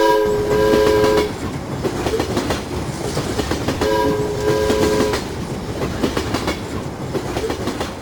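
A train rolls along steadily with rumbling and rhythmic clatter, while its horn blares twice in long, loud blasts, once at the start and again a few seconds later.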